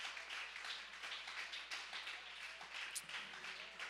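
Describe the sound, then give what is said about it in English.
A church audience claps hands to praise God during a worship service, a steady, dense wash of applause lasting several seconds, with individual claps blurring into a continuous patter, without any talking. “Oh, somebody clap their hands and give God praise in the house.”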